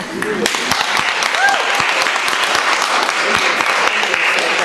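An audience at a discussion event at the Saeima applauds the discussion's co-moderator in a steady, dense wash of many overlapping claps, loud and continuous for several seconds, with a few brief vocal sounds at the start.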